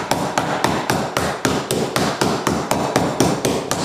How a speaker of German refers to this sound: Muss man das eigentlich klopfen oder kann man das... Kannst du also ganz zusammen machen, weil Rostboden ist wie ein Schnitzel geklopft, sonst hast du ein Bayerisch geschnitten halt.